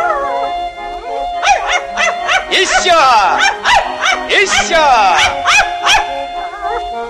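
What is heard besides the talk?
dog howling and barking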